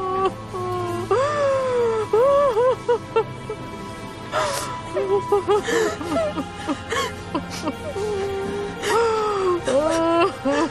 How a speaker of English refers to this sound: Doctor, the patient is having a very difficult time breathing. He's experiencing distressed breathing and can't talk.